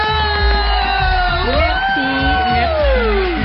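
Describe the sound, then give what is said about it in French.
A TV show audience cheers loudly and steadily in an ovation for a young journalist guest, with whoops and shouts rising over a dense wash of clapping and noise for a few seconds. “On va lui réserver une véritable ovation.”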